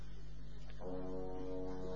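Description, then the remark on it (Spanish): The deep horn of a boat crossing a bay sounds a single long, steady blast, entering after a brief low rumble and holding its rich, buzzing tone loudly until the end, with no voices. “Ese barco, bueno, que cruza la bahía.”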